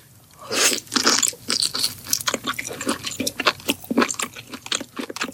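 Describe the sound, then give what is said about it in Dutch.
Loud, wet crunching and chewing of food in a mukbang, the Korean genre of eating in front of a camera, with rapid irregular bites and smacking mouth sounds repeating throughout, no talking. “In Korea ontstaan genre van jonge meisjes meestal die eten voor de camera.”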